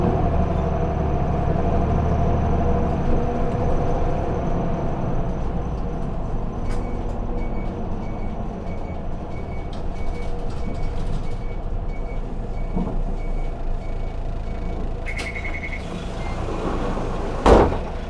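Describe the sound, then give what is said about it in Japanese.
A vehicle's engine rumbles steadily from inside the cabin as it rolls along, then a short high tone sounds and a sharp clunk lands near the end as it comes to a stop at Tajiri 2-chome. “次は田尻2丁目に停車いたします。”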